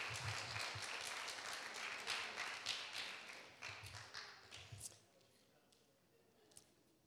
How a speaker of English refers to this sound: So I think all of our men in our church should have a big round of applause, even the ones that didn't get a nose today, because they share the word of God and are faithful.